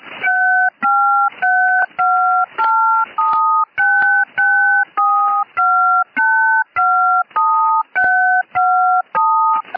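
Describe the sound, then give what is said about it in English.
A loud, steady string of random two-pitch electronic tones, each lasting about half a second with short gaps, sounding like rapid phone keypad dialing used as a radio jamming signal. “Random tones.”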